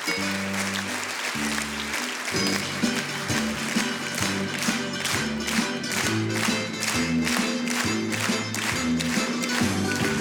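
A crowd claps and applauds the performers and the technician steadily for the full ten seconds, a dense, even wash of hand claps with music playing underneath, and no one speaking.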